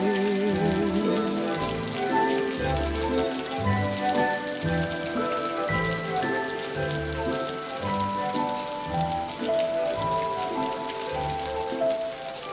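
rain falling

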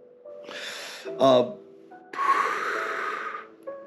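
coughing

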